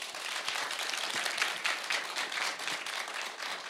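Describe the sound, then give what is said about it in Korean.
Steady audience applause on the show Sweet Sound, welcoming the next performance, a dense wash of many hands clapping at once with no pauses, moderately loud and sustained throughout with no voices over it. “여러분 다시 한번 큰 박수로 다음 무대를 청해보겠습니다.”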